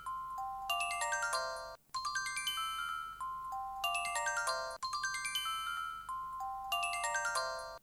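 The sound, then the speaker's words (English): A short electronic musical trill from a computer script scanning a spreadsheet column of dogs' names, signalling that the scan is working: quick bright chiming notes that cascade upward, repeating about four times in a steady loop with no voices. “You hear that little musical trill? Tells me it's working.”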